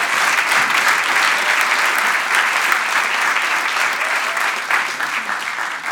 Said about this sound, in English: Amen. Amen. Give these guys a massive round of applause. Massive.